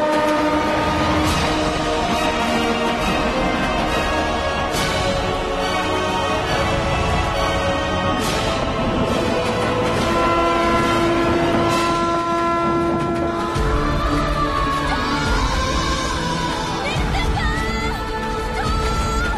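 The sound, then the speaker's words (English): A train rumbles loudly while its horn sounds in long, sustained blasts over the clatter, filling the whole stretch with no voices. “Instead of helping him pull his foot out of the flipping tracks, you decide to run towards the train while screaming stop.”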